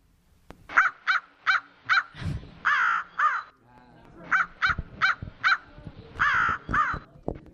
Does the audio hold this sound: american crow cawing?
yes